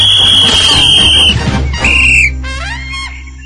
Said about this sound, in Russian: Возмущенный свисток судьи прерывает это безобразие.